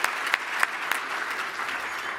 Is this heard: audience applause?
yes